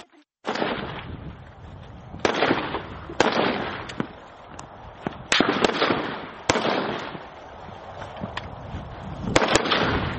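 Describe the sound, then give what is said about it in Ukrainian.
Assault rifle gunshots ring out from the firing line at a firing range during training: loud, sharp bangs at irregular intervals of one to three seconds, each trailing into a reverberant wash, with fainter shots in between. No voices. “Ми забуваємо, що ми дублюємо всі команди, тому що при пострілах ми можемо когось не дочути.”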